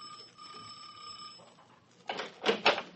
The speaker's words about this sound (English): You ring Mrs. Borges' bell.